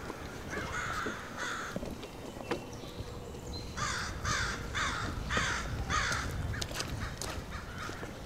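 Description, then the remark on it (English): Crows caw in a loose series of harsh calls, two early ones then a fast run of about six, loud over a steady outdoor background rumble with no talking. “You really get the sense that the crows are telling you you're trespassing.”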